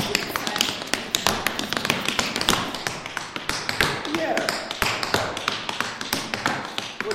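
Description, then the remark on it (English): Basic tap dance steps (time step, shuffle, riff, brush, slap) on a hard floor: a fast, steady stream of sharp, bright metallic clicks and slaps in shifting rhythmic bursts, loud and continuous for about seven seconds. “Time step, shuffle, riff, brush, slap. These are the basics.”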